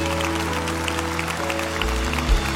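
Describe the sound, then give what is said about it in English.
A large audience applauds and cheers as people stand all over the building, in a steady, dense wash of clapping, with sustained musical tones held underneath throughout. “Come on, Lakewood, let's cheer them in.”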